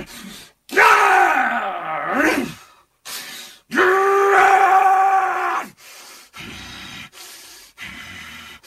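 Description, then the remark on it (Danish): A man voicing fight scenes in a recording session, swinging his arms through the air, growls and roars like an angry wolf in two long, loud, strained bursts, followed by shorter gruff grunts and shouts, with no clear words. “Han står og slår ud i luften, samtidig med at han growler som en sur ulv, og han råber og gør ved.”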